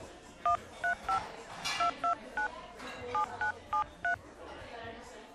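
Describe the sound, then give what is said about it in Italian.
A phone number being dialed on a cell phone to call a friend who went missing, in a bar in Ravenna, Italy: about eleven short, clear keypad tones in a quick, steady rhythm over a low murmur of background chatter. “Prova a chiamarla.”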